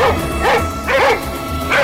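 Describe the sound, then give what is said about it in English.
Several dogs bark in a steady, repeated rhythm, the sharp woofs overlapping, loud, with no talking underneath; guards' dogs that have picked up an escaping man's scent and are giving chase. “I knew when the guards got to the hard ground because the dog picked up my scent right away. Yeah, he led the charge. A bunch of other dogs started.”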